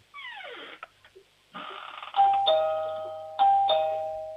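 A home doorbell from Bregenz, Vorarlberg, Austria, chimes two-tone ding-dong twice, each pair ringing out and slowly fading, after a few seconds of falling, swooping tones and small clicks.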